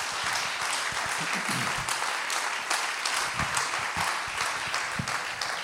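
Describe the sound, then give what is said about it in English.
Sustained applause from a church audience giving a man a big hand clap during a service, a dense steady wash of many hands clapping at once, loud and even throughout with no voices standing out. “Then give him a big hand clap in this house, because he deserves it.”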